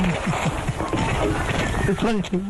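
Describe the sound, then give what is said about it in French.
An Australian duck imitates a human voice, saying "you bloody fool" in a string of hoarse, speech-like syllables with wavering pitch, fairly loud and continuous over a steady background hiss, ending in a few rising and falling tones. “Et bien maintenant, pour en ajouter un de plus, le fameux canard australien. On se le remet, you bloody fool.”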